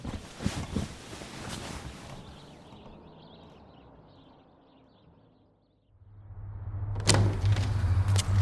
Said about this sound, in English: A few times, I heard his bedroom door close. He was trying to be quiet, but there was a creaky floorboard right outside my room.